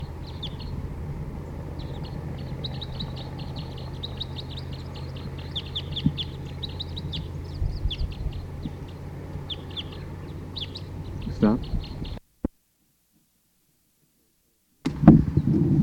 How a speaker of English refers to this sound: Start recording, the birds are starting to call a lot